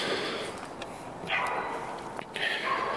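Dogs bark a couple of times, two sharp bursts standing out over a steady background hiss with no one talking.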